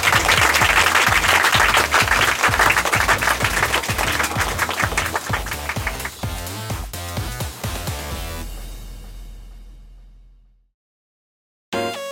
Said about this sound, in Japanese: 拍手